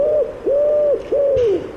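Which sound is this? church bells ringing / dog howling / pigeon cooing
pigeon cooing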